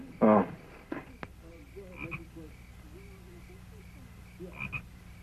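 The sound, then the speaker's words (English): Frogs croak in a barn, opening with a loud, rasping burst, followed by softer scattered croaks and chirps and another louder call near the end. No one speaks. “The frogs are in the barn.”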